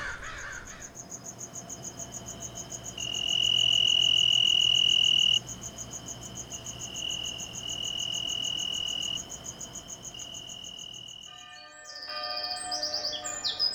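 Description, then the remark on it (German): Birds chirp and twitter on a warm, sunny morning over a steady, shrill insect-like drone, with a busier burst of bright chirps toward the end; no one speaks. “Die Vögel begrüßen den neuen Tag.”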